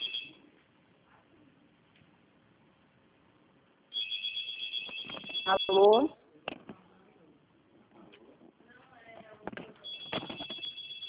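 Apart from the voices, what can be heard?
telephone ringing in background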